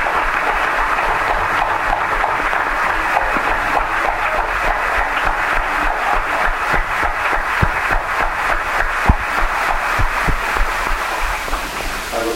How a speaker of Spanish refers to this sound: Y voy a llevar este aplauso a México.